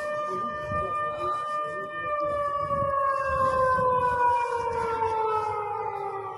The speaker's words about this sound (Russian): Жителям Белгорода не хватило места в укрытии во время утренней воздушной тревоги.